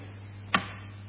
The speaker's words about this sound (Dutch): De klok tikt.